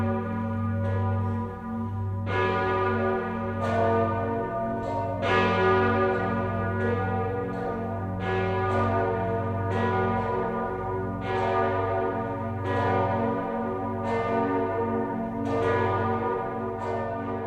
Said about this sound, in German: Von Speyer schlagen die Glocken eine klingende Brücke über den Rhein.